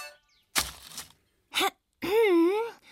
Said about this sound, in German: Räusperte sich das Mädchen.